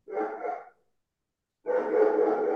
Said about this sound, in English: I'm like, oh my God, whose dog is that?